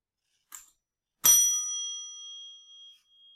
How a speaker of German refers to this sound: Ich schlage die Glocke an, dann halten Sie das Video bitte an.